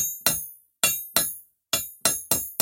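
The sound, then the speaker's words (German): Seven loud hammer blows ring out as a smith forges a sword from iron on an anvil, each a sharp metallic clang with a bright, high ringing tail, struck in an uneven rhythm with short pauses between them. “Schlag für Schlag, aus dem Eisen wird's Schwert,”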